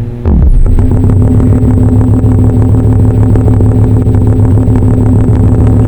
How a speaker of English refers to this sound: You are listening to a pair of Car Plus Strong boards bolted together, running off of 2 9-volt batteries.